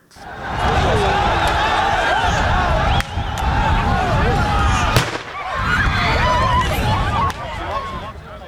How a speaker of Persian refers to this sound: پلیس ضد شورش در مقدونیه برای پراگنده ساختن هزاران پناهجویی که میخواهند از یونان وارد مقدونیه شوند از گاز اشکاور استفاده کرد. همچنان صدای تیراندازی نیز در این جریان به گوش رسیده.